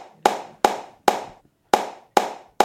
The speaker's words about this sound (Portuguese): Batendo palma, chamou o trabalhador.